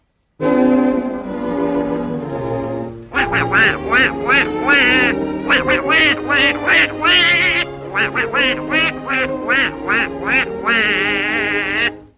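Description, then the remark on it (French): Donald Duck's cartoon voice quacks and squawks in rapid, garbled bursts, loud, with a steady tone underneath at first before a flurry of choppy, nasal syllables. “Le canard Donald est à l'honneur cette fois-ci.”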